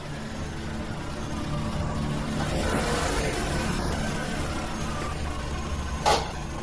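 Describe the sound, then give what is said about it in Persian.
A car engine hums steadily as the car is driven away from home at 10 o'clock, heading to a warehouse: a low rumbling drone with road noise that swells slightly in the middle, ending with a brief sharp click or knock. “ساعت 10 بود که ماشین رو روشن کردم و از خونه زدم بیرون.”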